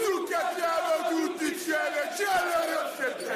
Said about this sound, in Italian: Versi ad imitare una scimmia quando un calciatore di colore tocca la palla.